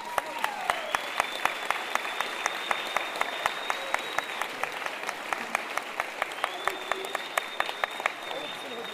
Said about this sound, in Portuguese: E a gente queremos receber com uma grande salva de palmas aqui na roda de samba, mais uma vez,